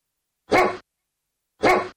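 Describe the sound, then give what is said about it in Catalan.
A hunting dog gives two loud, separate barks about a second apart, each short and full-bodied, with silence around them and no voices. “Pel camí va trobar un gos de caça i li va preguntar: amic, per què corres amb la llengua fora?”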